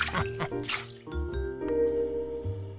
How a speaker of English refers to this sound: Whoa, look at all the bubbles. Let's get popping.